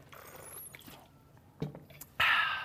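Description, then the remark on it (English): Someone drinks water, with faint sipping, a small clunk like a cup being handled, then a loud, breathy exhale right after swallowing. “Thank you, Lord, for water.”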